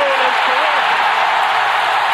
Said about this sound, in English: And the building shakes in Seattle. Listen to that crowd. Going nuts.